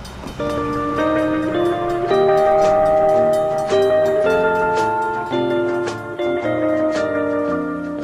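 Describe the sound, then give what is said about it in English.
A train rumbles past in Hawkins, a tiny East Texas town, with a loud, sustained horn blaring in chords that shift in pitch and rhythmic clacking underneath, steady for several seconds. “In the early 1960s, Mel and Norma lived in Hawkins, a tiny East Texas town, situated around one intersection and the trains that run by.”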